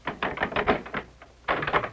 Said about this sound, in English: unlock the door.